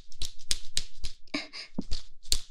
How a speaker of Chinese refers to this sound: 这个鞭子听起来就特别有力呢，主人。